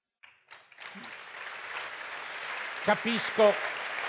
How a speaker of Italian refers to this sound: Capisco che il vostro applauso punta a pensare che questa sia la conclusione e l'avete colta, però la sorreggo con ultime due osservazioni.